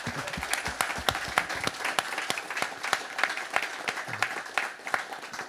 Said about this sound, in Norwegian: Applaus for det. Applaus.